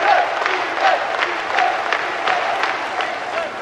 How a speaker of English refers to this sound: It's 16 years since the start of the revolution, and Fidel convenes the first ever Communist Party Congress. We're rolling. And we scramble to record Fidel's 20-hour speech. Congressmen stand and clap.